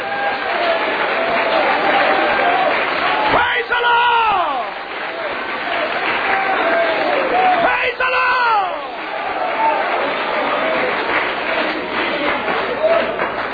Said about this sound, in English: Would you stand and clap your hands? If you feel like God's able to fill you with the Holy Ghost, or He's able to answer a problem, He's able to make a way. If you really believe that, clap your hands to Him right now.